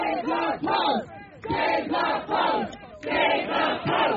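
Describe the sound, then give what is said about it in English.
A protest crowd chants together in loud, rhythmic phrases, many voices rising and falling in unison with brief dips between repeated bursts. “You know, I saw people, a lot of people hugging each other. There was chanting.”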